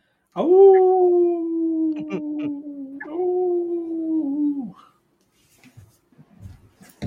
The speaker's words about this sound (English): The dog's barking. Puppy bark.